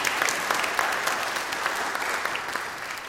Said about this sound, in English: So they come from all over the world to Des Moines Metro Opera, and our appreciation to you for that. Would you show your appreciation with your applause once more? Thank you.